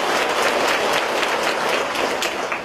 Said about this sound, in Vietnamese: Chúng ta một tràng pháo tay thật lớn để chúng ta chúc mừng. Một tràng pháo tay thật to để chúng ta chúc mừng